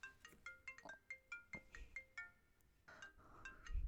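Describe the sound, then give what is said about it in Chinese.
A mobile phone ringtone for an incoming call from a woman's husband plays a quick melody of bright electronic notes in rapid bursts, briefly pausing before starting again. It sounds fairly quiet, with no voices. “把手机给我，我怎么能接我老公的电话呢？”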